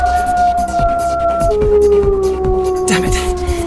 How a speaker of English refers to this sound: Clever little beasts, those wolves. They're chasing us into a dead end.